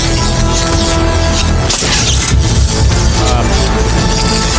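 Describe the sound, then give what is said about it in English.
A loud fireworks burst at the opening of the Tyvon collection erupts partway through, crackling over a dense, continuous bed of music and ambient noise that stays strong throughout. “A bunch of kind of lights up and fireworks and stuff.”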